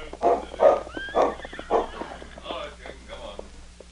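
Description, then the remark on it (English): A horse being ridden up whinnies and snorts in a few loud bursts, with yelps from a dog accompanying the rider mixed in and the faint shuffle of hooves underneath. “We'll just look unconcerned when he rides up.”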